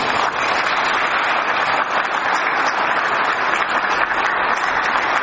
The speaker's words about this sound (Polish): Bardzo dziękuję Akcji Katolickiej z naszej parafii za przygotowanie dzisiejszego wieczoru poezji. Wielkie brawa.